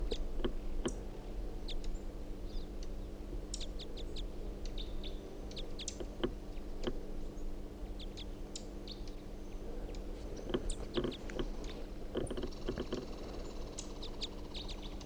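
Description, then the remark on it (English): A female bird calling in short, high chirps and tweets that come irregularly, some in quick clusters, over a steady low mechanical hum. No one speaks. “It's recording. This is the female.”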